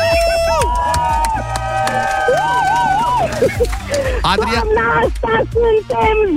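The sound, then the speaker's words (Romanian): A loud crowd of Radio Zoo fans cheers and applauds for several seconds as a contest winner is announced, with high sustained whoops and shouts rising over a steady wash of clapping and excited voices. “Și nu numai atât, stai, păstrează-ți glasul, pentru că în aplauzele fanilor Radio Zoo de pe Facebook te anunț, stai, imediat te anunț că ai câștigat și o cheie care poate să deschidă apartamentul Zoo, cel mai tare premiu al sezonului.”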